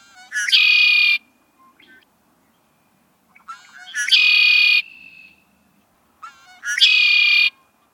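A red-winged blackbird's call repeats three times at steady intervals, each a short stuttering lead-in followed by a loud, buzzy, ringing trill, clear against a quiet background; heard in early spring.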